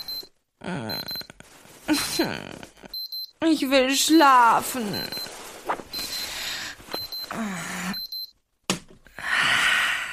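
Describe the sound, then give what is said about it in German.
A shrill electronic alarm clock beeps in repeated short bursts, cutting in and out, while a groggy voice mumbles and groans between the rings. “Ich hasse dieses Klingeln.”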